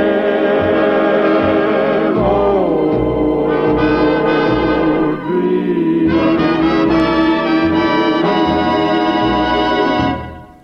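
Closing bars of a 1940s crooner love song: lush, sustained orchestral chords with a warm low bass line, swelling and shifting steadily, then fading out in the final second.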